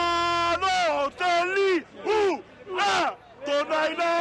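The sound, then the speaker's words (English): A lone soccer fan in Italy chants and screams racist abuse at the player Balotelli in loud, strained bursts, about five shouted phrases with rising and falling pitch, forceful, with only faint crowd noise behind. “This chanting fan screams, "Balotelli, son of a bitch, he's not Italian, he's Negro."”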